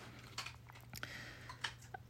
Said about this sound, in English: He's chewing exceptionally loud now. Thanks, buddy.